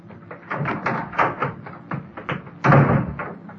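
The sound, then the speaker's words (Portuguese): A door is pulled shut with a solid thud near the end, preceded by a few seconds of light knocking and rattling handling sounds, moderately loud. “Faça o favor de fechar a porta, viu?”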